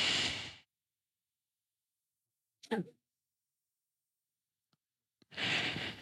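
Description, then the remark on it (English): Slow, deliberate alternate nostril breathing exercise, breathing in through the left nostril and out through the right: a long airy breath, a quiet pause broken by a brief soft sigh and faint clicks, then another drawn-out breath, fairly quiet with no talking. “You breathe in through the left nose. Breathe out through the right.”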